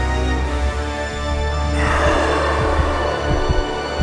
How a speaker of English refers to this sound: Her heartbeat was so loud that her eardrums felt like they were about to burst.